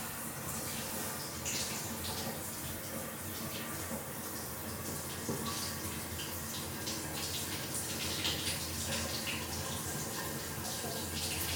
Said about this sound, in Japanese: それはシャワーの時聞こえてるよね。極力今離れてるんだけどね